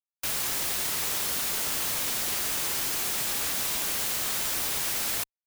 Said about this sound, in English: So-called white noise, the stuff you used to hear on an empty television channel, is this pattern in sound.